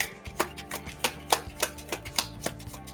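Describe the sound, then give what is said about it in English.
A deck of cards being shuffled by hand, giving about ten crisp, evenly spaced slaps and taps over a steady low tonal hum, with no one talking. “Shuffle it a few times.”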